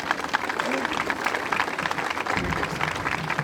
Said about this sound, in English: And speaking on behalf of coaster enthusiasts everywhere, I'd like to introduce Jim Futrell, who's the historian for the National Amusement Park Historical Association. A round of applause for Jim, please.